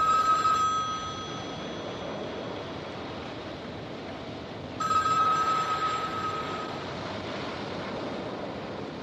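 A telephone bell rings in two bright, trilling bursts, one brief at the start and a longer one midway, over a steady rushing background like surf. No one speaks.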